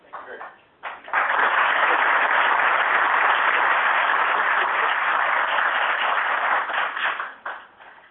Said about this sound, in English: Hello, we're on the phone. We can't hear anything at all other than clapping.